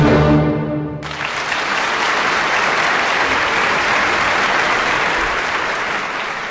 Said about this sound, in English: That applause for the Vienna Philharmonic Orchestra and conductor Claudio Abbado, playing us the overture to the opera Donna Diana from composer Emil von Reznicek of Austria, here on Kansas Public Radio.